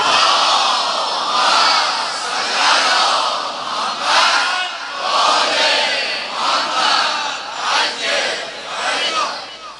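A large crowd loudly chants salawat together, many voices rising and falling in a steady, surging unison that fills the whole clip without pause.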